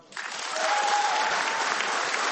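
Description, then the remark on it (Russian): Dense, steady applause serving as the only accompaniment to a song rises quickly after a brief moment of quiet, many hands clapping in a continuous crackling wash with no clear individual beats, holding at a fairly loud level throughout. “Обратите внимание, единственным аккомпанементом в данной песне являются аплодисменты, и звучит это, конечно, действительно потрясающе.”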